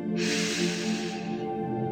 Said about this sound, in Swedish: Andas in genom näsan och ut genom munnen och släpp alla spänningar. Sista djupa andetaget. Andas in.